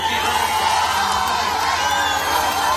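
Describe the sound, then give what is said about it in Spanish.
A large concert audience booing loudly, a dense, sustained roar of many voices that never lets up across the whole stretch, with scattered shouts rising out of the mass. “Un compendio de contrariedades que acabó así.”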